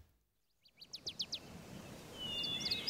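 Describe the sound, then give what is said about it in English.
A short series of four or five quick, bright bird chirps rings out after a moment of silence, followed by more high twittering calls over a soft outdoor hiss of forest ambience. “This is a forest. There are lots of birds hiding in its trees.”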